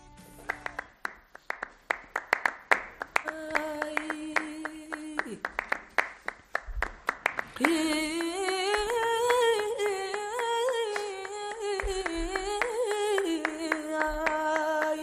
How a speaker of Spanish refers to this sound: Sí, he intentado dar palmas. Una expresión típicamente española.